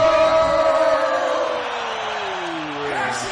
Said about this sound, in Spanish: Nuestro grito de guerra de la operación Ecovidrio. Ecovidrio. Ecovidrio.